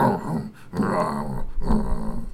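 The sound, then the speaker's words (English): A werewolf growl sound effect: three loud, rough snarling bursts with a low rumbling undertone, each swelling and breaking off briefly before the next, with no talking. “Well, no, all they heard in the distance was a werewolf.”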